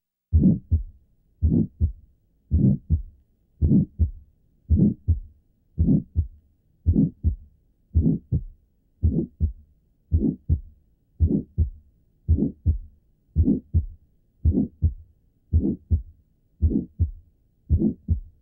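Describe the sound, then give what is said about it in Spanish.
A heart murmur with its low end filtered out, giving a thinner, higher-pitched rasp. Seventeen or so evenly spaced beats repeat about once a second, with no talking. “puede hacer que el soplo se oiga de tonalidad más alta a la que realmente posea”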